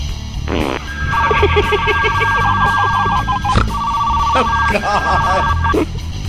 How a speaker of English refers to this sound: Is that the fart phone? Yeah. Was that the fart phone? That was the fart phone. I want to hear that again. It's the fart phone.